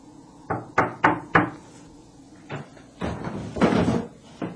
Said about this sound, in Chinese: 于是洛瑟来到一家客栈门口，敲敲门。